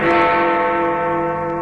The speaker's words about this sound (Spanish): Suena ya la campana de don Alberto Estella.